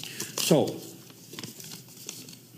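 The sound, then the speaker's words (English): A piece of paper being unfolded and rustled, with a burst of crisp crinkling near the start, then fainter scattered crackles and a brief voice sound. “I got a piece of paper here this morning.”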